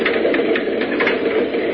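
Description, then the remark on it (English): The heavy door of a refrigerator car is forced open to free a boy locked inside, with a loud, steady mechanical grinding and rattling that runs unbroken for under two seconds, with no voices. “Force this door open like this.”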